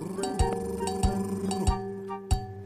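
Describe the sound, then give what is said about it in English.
Cattle bells of cows and goats clank in a loose, steady rhythm, about four metallic knocks roughly half a second apart, each leaving a bright ringing tone that hangs on between strikes. No voices. “You can hear the cattle bell, the bell of the cows and goats.”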